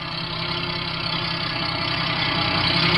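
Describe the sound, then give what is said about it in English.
A truck engine runs with a steady, throaty rumble and a low rhythmic chugging, growing slightly louder over a few seconds as the truck gets close. No voices are heard. “When the truck gets close enough, I'll put the searchlight in the driver's face like before.”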